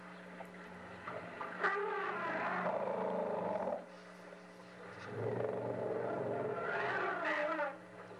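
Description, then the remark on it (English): Elephants give alarm calls in response to hunting lions: two long, loud, harsh roaring bellows with rough harmonic tones, each lasting a couple of seconds, separated by a brief lull over a low steady hum. “this is elephants responding to lions that are hunting”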